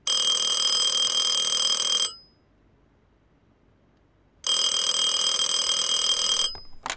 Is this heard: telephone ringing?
yes